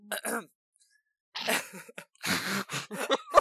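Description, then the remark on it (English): A person clears their throat in a few rough, raspy bursts after a short voiced sound and a pause, ending with a sharper, louder rasp. “that was the sound of my throat being cleared.”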